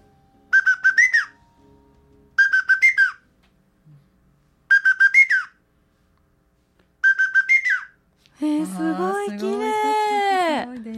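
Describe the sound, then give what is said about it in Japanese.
A large wooden whistle, played in a demonstration, mimics a lesser cuckoo's call in four bright, high, rapidly trilled phrases separated by short pauses. A voice comes in at the end. “はい、それでは大きい笛を吹かせていただきます。 はい、 ホトトギスです。”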